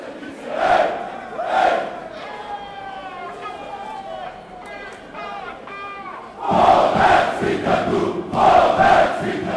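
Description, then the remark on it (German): A few hundred FCB football fans chant and shout during a fan march through a reverberant tunnel before a semi-final match, the roar swelling in loud rhythmic bursts, with a shrill whistle-like tone weaving through the middle stretch. “ein bisschen später hörst du gar noch, wir sind in einem Tunnel gewesen, was natürlich schön kalt hat und da knallt es dann gerade richtig, ein paar Sekunden noch.”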